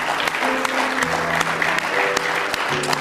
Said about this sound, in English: Let's give him one more real good hand clap of praise if you love him with all your heart.